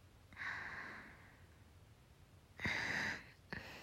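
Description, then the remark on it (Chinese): Heavy, airy breathing with no talking: a long drawn breath, a pause, then a louder rasping breath and a short third one cut off at the end. “可是，你的呼吸声真的很重哎”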